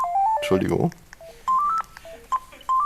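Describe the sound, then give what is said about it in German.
A phone rings with a call from the lounge, an electronic melody of short, clear beeping tones that step up and down in pitch and repeat in phrases, with a brief noisy burst near the start. “Genau, die Lounge hat angerufen.”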